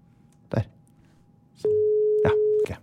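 A FaceTime phone call's ringing tone sounds once, a loud, steady electronic beep lasting about a second, with a few short clicks and thumps around it and no talking.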